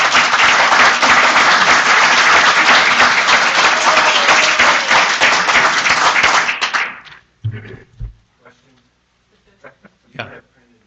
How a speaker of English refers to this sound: And I hope it isn't too early to give him a round of applause for everything he's done.